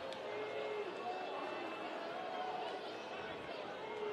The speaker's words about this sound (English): There's some booing of the computer umpire going on here at Cheney Stadium.